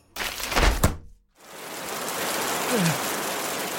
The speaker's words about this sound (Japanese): ここに置いてあるのは雨降り傘。いい？ちょっと広げてみるよ。